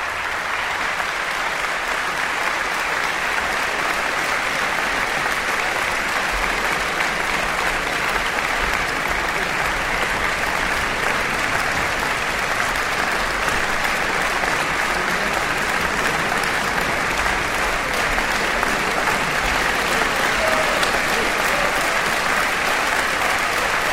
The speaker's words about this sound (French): Antonio Meneses revient sur scène, saluer le public extrêmement chaleureux du Théâtre des Champs-Élysées, musiciens qui l'applaudissent tout aussi chaleureusement. Ça fait plaisir de voir des musiciens applaudir un soliste.